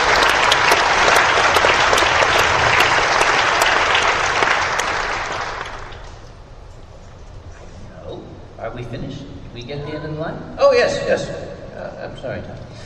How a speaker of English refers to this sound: So he deserves a round of applause.